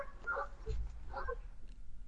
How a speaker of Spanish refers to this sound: Ay, se escucharon los perros y luego no se escuchó más.